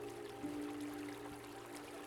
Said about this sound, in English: Allow yourself to gently walk toward that sound now. You don't have to go too far, and you can see this beautiful stream with sandy banks. It's very shallow on the edges, deeper in the middle.